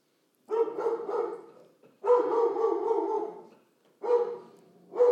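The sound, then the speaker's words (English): A dog barks repeatedly in drawn-out, whining bursts, four in all with short gaps between them, loud with no one talking; the dog is barking because its owner is having a seizure. “His dog barks when he has a seizure.”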